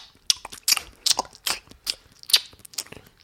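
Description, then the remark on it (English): A woman mimics livestock chewing with loud, open-mouthed gum chewing: a steady run of about eight wet, crackly smacks, roughly two or three per second, with no talking. “So what she's doing, she's impersonating some sort of livestock chewing, because now she's chewing gum, mouth open, because is there any other way?”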